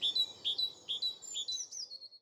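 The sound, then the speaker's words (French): A tit (mésange) chirps in a garden in a quick series of high, bright notes, about five or six in a row, clear over a soft outdoor background hiss. “Ah, ça, c'est une mésange.”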